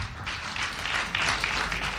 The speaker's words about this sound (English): Oh, I missed the clap offering.